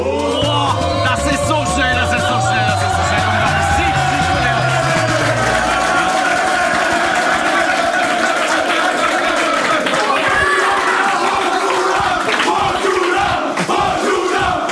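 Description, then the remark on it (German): A loud crowd in an arena cheers and shouts continuously for about fifteen seconds at a drinking contest, a dense roar of voices with whoops and chanting, and a low rhythmic drumming pulse in the first six seconds. “Wahnsinn, diese Stimmung hier.”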